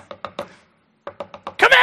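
Sharp, fairly loud knocks on an office door: three quick raps, a short pause, then four more in a steady rhythm, ending in a sudden burst of louder, rougher noise.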